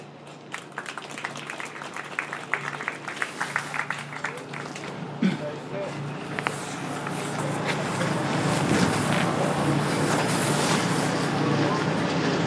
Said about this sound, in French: Je dois faire attention à cause du vent, excusez-moi.